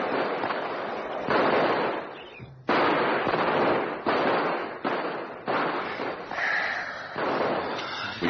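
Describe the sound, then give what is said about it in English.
A rapid series of loud explosions as rocket warheads go off, each abrupt blast rolling into roaring noise before the next one hits, with no voices. “The explosion, the fire got them all.”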